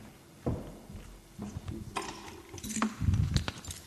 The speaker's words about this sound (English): There you go. What's that? Keys. What do you think they are? Keys to what? Car. A car, yes, because I came here by car this morning from Histon.